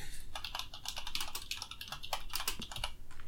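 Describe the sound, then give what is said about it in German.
Rapid, uneven clicking of keys on a computer keyboard, fairly loud, with a steady run of keystrokes and brief pauses, no voices. “Hört man leider die Tastatur, aber nein.”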